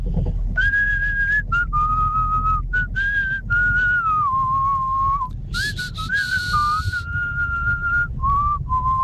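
A whistled rock-song melody carries on in long, sustained notes with small pitch glides and brief pauses between phrases, over a steady low rumble. A short hissy burst breaks in midway, with no talking.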